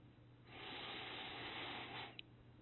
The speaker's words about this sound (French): J'inspire, je gonfle. J'expire tout l'air que j'ai dans les poumons. J'inspire complètement.